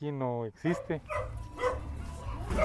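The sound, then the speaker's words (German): A dog gives a short, tonal bark at the start, followed by a couple of quicker yips, then people talking over a low background rumble, in a poor neighbourhood bordering the centre of Guatemala's capital where dogs, chickens and goats roam everywhere. “Überall laufen Tiere herum, Hühner, Ziegen und Hunde.”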